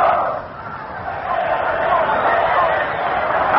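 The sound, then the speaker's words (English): A large crowd at Yankee Stadium gives an Army cheer during a timeout at an Army versus Notre Dame football game, a steady, muffled roar that dips briefly near the start, then swells and holds for several seconds, with no clear voices. “We're just about to go down there to pick up an Army cheer”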